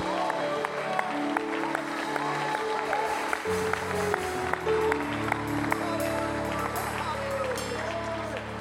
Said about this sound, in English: Come on, give God a hand clap of praise before you're seated in the presence of God today.